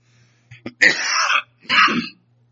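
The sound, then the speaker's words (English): A person clears their throat with a couple of short, rough bursts, followed by a harsh cough, fairly loud with a steady low hum underneath. “As a complete sidebar, guys have known about my cough for a long time.”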